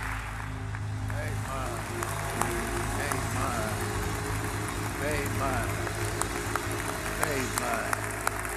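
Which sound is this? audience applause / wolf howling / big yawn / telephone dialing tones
audience applause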